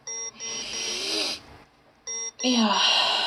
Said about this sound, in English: Babe, wake up. Your alarm's going off.